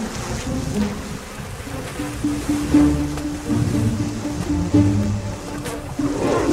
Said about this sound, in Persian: درست در پایین یک لانه زنبور عسل آفریقایی وجود دارد.